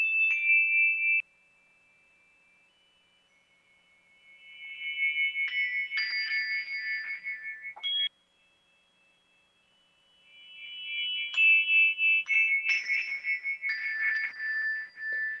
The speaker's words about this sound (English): we hope that you can just really relax into this moment and just allow these tones to go deeply within your heart.